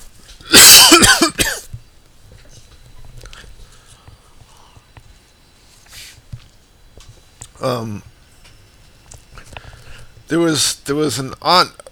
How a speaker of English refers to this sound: Hold on, I'm having a major coughing attack.